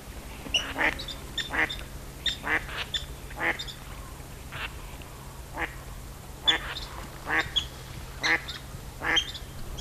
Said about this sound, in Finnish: Niitä on täällä yhteensä 500-600. Sorsat ovat kerääntyneet yhä suuremmin joukon Siikalahdelle. Lokakuussa, kun haapanat tulevat pääjoukkoinaan, niin niitä on täällä 2000. Ne tietävät, että täällä ei saa metsästä. Sorsien paratiisi.